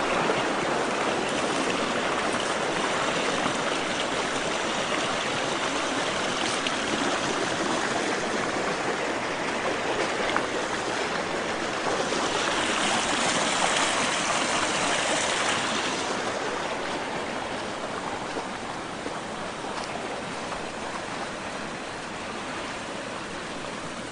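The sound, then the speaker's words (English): A creek about 12 to 15 feet wide rushes steadily through a frozen landscape with a broad, hissing wash of flowing water, continuous for the whole stretch, easing slightly softer toward the end. No voices are heard. “Here the creek is about 12 to 15 feet wide.”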